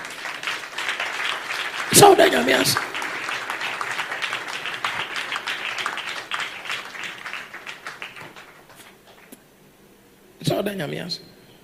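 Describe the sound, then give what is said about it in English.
An audience breaks into sustained applause for the Lord, a dense crackle of many hands that gradually thins out and fades, with raised voices calling out over it and again once the clapping stops. “Don't you think at this point you should clap for the Lord?”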